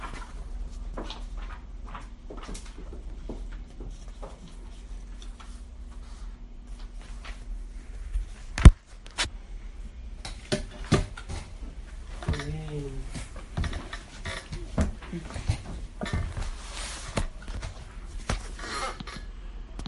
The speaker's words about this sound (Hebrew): דלת.